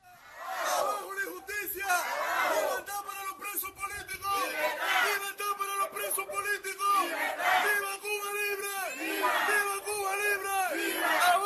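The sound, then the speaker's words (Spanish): A large crowd shouts slogans in unison at a street demonstration in Cuba, loud rhythmic chanting with repeated rising and falling phrases, voices merging into a dense roar that continues without pause. “No hace mucho era impensable que gritos como estos se escucharan tan alto y durante tanto tiempo en una manifestación por alguna calle de Cuba.”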